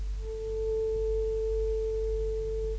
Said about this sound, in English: These are the tones. The first word, this is the tuning fork.